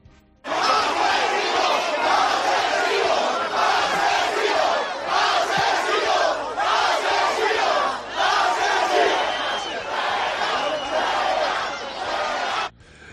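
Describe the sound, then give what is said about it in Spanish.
An angry crowd in Paiporta shouts continuously as a delegation including Sánchez arrives, many voices overlapping in a loud, dense roar that swells and dips slightly but never lets up for about twelve seconds. “Hora y media de mucha tensión que, resumida en sonidos, vendría a ser algo así.”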